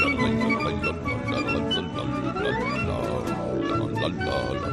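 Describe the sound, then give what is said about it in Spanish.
A person growls and snarls in a deep, rough voice, imitating a fierce wolf, sustained and loud for several seconds with wavering pitch. “Es el lobo, sí, lobo feroz, sí.”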